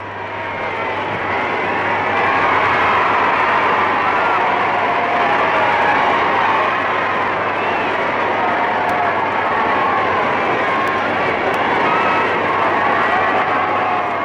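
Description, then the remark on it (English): A large crowd cheers Princess Elizabeth and the Duke of Edinburgh standing on a balcony after their wedding, a loud, unbroken roar that swells in the first couple of seconds and then holds steady, a dense wash of many voices with no clear words. “Listen to them now, listen to the crowd as they cheer.”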